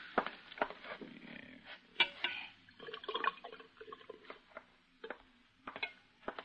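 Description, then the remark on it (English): Water pours from a water cooler into a cup, with irregular glugs, bubbles and small splashes, fairly quiet and with no voices. “And get some water from the cooler over there, will you?”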